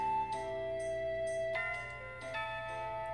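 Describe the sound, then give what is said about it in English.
A school bell chime marking the end of the morning class rings out, a few struck bell tones sounding one after another with long sustained, overlapping resonance over a steady low hum. No voices. “The bell sounds. The bell marks the end of my morning class.”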